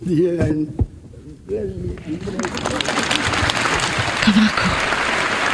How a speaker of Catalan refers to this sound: Un fort aplaudiment per Pau Casals, el que li acabaven de donar la medalla d'or del Premi de la Pau a les Nacions Unides